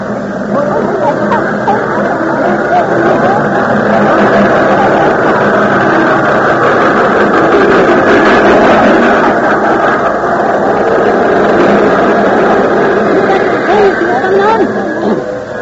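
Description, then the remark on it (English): A loud, steady engine rumble and hiss, like a train pulling into a station, fills the scene without letting up, with indistinct voices murmuring underneath. “I was afraid you were going to miss the train.”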